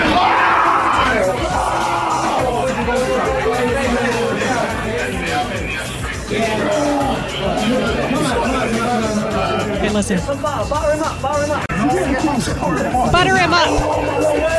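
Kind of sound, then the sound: human body sound, man screaming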